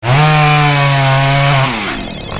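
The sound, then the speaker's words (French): A Steel chainsaw engine roars at a steady high pitch for over a second, then the revs drop and the motor sputters down into a rougher idle. Loud, with no talking. “Tronçonneuse Steel, la performance est notre exigence.”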